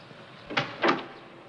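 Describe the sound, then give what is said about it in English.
Two heavy, fairly loud thuds of a fist pounding on a door, a short pause between them, with no voices. “What door am I pounding on right now?”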